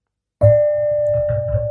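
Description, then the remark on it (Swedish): After a moment of silence, a small gong is struck once with a padded mallet, giving a soft attack and a steady, ringing tone that hums on with a low resonance underneath. “David har tagit med sig en liten gonggong, en pinne med vadderad knopp”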